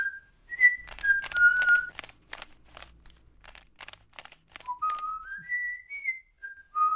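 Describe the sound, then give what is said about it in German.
A girl carrying a basket whistles a bright, bouncy tune as she walks along a path, the melody hopping up and down, while crunchy footsteps or rustling crackle underneath in the first half. “Das Mädchen mit der roten Maske packte ihren Korb und ging fröhlich pfeifend den Weg entlang.”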